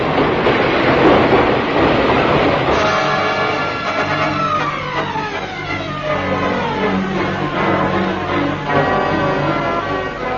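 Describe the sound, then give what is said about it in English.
An underground train pulls into the Hyde Park Corner underground station, a loud rumble giving way to a falling whine and steady clatter as it slows, with no voices present. “old lady behind you and 4 others you can see getting ready to board the train.”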